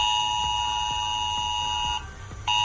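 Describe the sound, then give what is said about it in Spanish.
A loud, continuous electronic alert tone with steady high-pitched harmonic layers, briefly dropping out near the end before resuming: the ES-Alert emergency warning system sounding on a mobile phone, a real-time alert sent when there is a nearby emergency or potential danger, with no one talking. “Se trata del sistema de aviso S-Alert, una alerta que nos llega al teléfono en tiempo real si estamos cerca de una emergencia o de un peligro potencial.”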